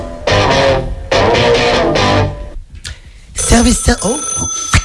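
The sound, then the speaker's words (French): A telephone rings loudly in two long, buzzing bursts, then a short pause gives way to a bright, busy musical jingle with sustained high tones, opening an improvised comedy phone segment called 'Service après impro'. “Allez, petit jingle.”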